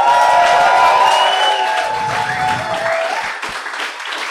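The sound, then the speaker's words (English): A crowd applauds loudly and steadily for a comedy act and the Jazz Police's stage cleaning at a Psy by Southwest evening show, with scattered cheers and a few whistles rising above the dense clapping, which tapers slightly toward the end. “A round of applause for both the comedy and also the stage cleaning skills of the Jazz Police!”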